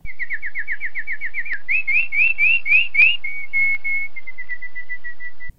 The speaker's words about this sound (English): Calling loudly to all his bird friends to help him find little brother horse.